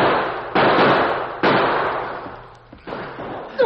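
rifle gunshots

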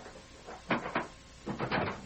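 cabin door opening

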